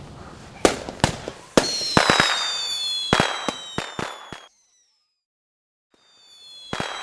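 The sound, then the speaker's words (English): Fireworks burst on Guy Fawkes night in a rapid series of sharp cracks and pops with crackling tails, then a few seconds of near silence before another bang. “Look, the fireworks are starting.”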